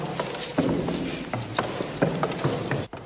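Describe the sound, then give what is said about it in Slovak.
A mechanical tower clock mechanism, made by Franz X. Beitelbern in 1925 and still fully functional, ticks and clatters with a steady ratcheting rhythm, sharp metallic clicks repeating about every half second over a constant mechanical whir, no voices present. “Musíme sa vydýchať, ale už počujem hodiny.”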